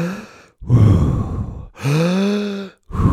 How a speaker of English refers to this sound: We put on the YouTube video, Wim Hof breathing. You do 30 rapid, but there's no pause. Deep breaths.